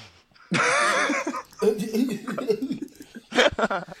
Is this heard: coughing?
yes